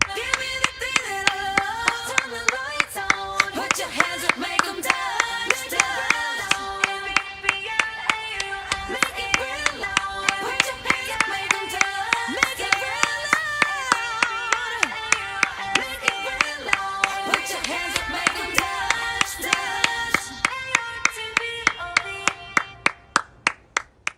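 hand clapping

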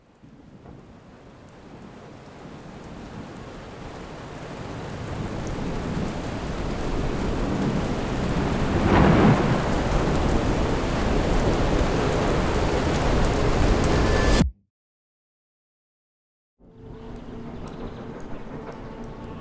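thunderstorm with heavy rain

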